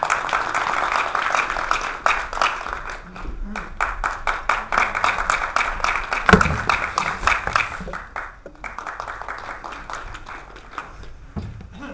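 An audience in the Tianjin Library lecture hall breaks into warm, sustained applause welcoming the lecturer of a talk on old Tianjin cartoons, dense and steady clapping for about eight seconds before gradually thinning into scattered claps.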